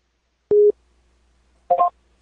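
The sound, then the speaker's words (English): Two short electronic Skype call tones sound with a pause between them as a call is placed to a conference line: first a steady beep, then a brief warbling multi-note chime, clear, with no voices. “I'm going to do this on Skype. And you can go ahead and call it from your phone.”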